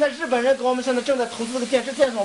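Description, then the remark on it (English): Vegetables sizzle steadily as a man stirs them in a hot wok at his roadside cafe in a small village in the Gobi Desert, off Route 312, a continuous hiss of frying, while a voice talks over the cooking throughout. “The biggest problem in his small village is simple, he says, as he stirs the vegetables in the wok.”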